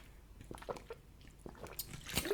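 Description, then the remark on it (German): Someone takes a quiet sip of water, with soft wet mouth noises, a swallow and a small gulp near the end, and no talking. “Darauf einen Schluck Wasser, ihr Lieben.”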